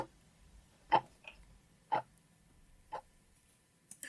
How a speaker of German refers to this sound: Ihr wird schwindelig und bevor sie ohnmächtig ist, hört sie noch einmal das Ticken der Taschenuhr. Dann ist es still.